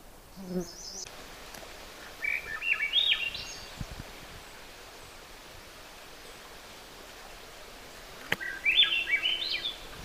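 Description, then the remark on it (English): A Swainson's thrush sings two flute-like phrases that spiral upward, several seconds apart, over a steady rushing background like running water. “That sort of flute-like song, actually it's very, very pretty, is a Swainson's thrush.”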